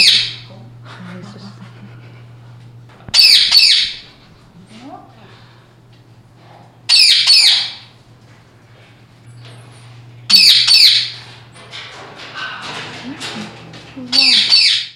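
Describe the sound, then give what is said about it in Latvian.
Larger birds kept in a separate quarantine room at a zoo squawk loudly and harshly, about five raucous calls spaced a few seconds apart, over a steady low hum with quieter rustling and murmuring between the calls. “Putni un citi dzīvnieki ir gādīgajās zoodārza darbinieku rokās”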